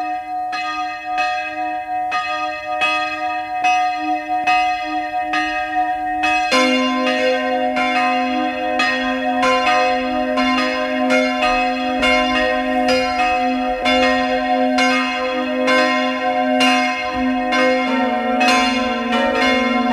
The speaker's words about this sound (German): Es ist 12 Uhr. Sie hören die Glocken der Pfarrkirche St. Georgen am Weinberg in Kärnten.